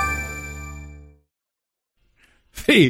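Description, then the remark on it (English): A short bumper stinger: one loud, resonant metallic clang rings and fades over about a second. Silence follows, then a voice starts talking. “The bumper music theme is tied to the Wolves' feeble shooting last night with, is it just bricks or will you use other?”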